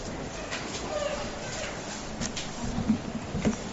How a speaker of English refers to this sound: Praise the Lord for the rain, amen.